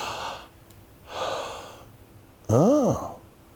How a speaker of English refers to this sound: And I can go into the office, and he'll take this thing called a stethoscope, and he'll put it on my chest, and he'll say, "Pastor, take a deep breath."